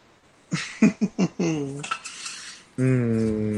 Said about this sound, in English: Okay. Now get the frying pan.